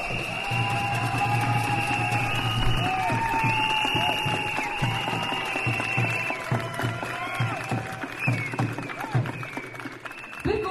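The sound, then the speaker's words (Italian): A crowd in a square claps for women who have experienced violence. It is a dense, continuous patter of many hands, sustained at a fairly even loudness throughout with a low hum underneath. “Io vorrei fare un grande applauso a loro.”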